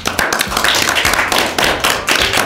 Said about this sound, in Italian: Fatevi un applauso perché siete ganzissimi.